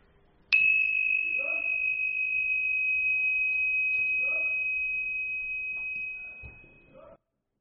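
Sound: meditation bell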